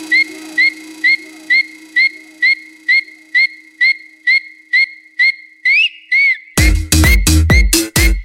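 A person whistles a quick, repeated two-tone call in a steady, even rhythm, clear, ending with a sliding note before louder whistles mix with harsh, noisy bursts.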